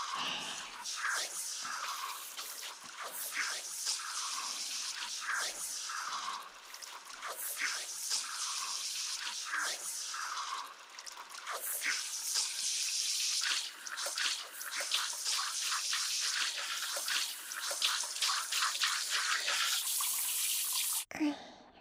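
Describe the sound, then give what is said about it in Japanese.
Steady running water splashes and patters continuously, like a shower rinsing shampoo foam out of hair toward the crown of the head, with soft wet crackles and small drips throughout and no voices. “つむじにかけてもシャンプー泡が残りやすいので。”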